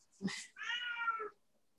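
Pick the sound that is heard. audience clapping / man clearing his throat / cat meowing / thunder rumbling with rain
cat meowing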